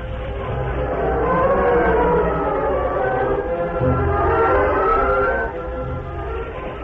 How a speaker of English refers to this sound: A few minutes later, Cliff and Gopher stood beside the moonlit tracks, watching the train disappear in the distance.